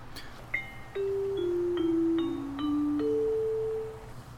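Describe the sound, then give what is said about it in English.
A bell chime rings out a short melody of several sustained, ringing tones that step up and down, clear over a faint low hum, with no one speaking. “And there is the bell, and that means if you haven't been with us, this podcast is coming to an end.”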